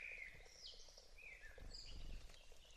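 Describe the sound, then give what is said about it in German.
Several spring birds sing in a small wood by a small stream, trading bright whistled phrases that rise and fall, quiet over a low, steady rumble of background noise, recorded by an unattended microphone. “Frühlingsvögeln im Echoraum des kleinen Waldes”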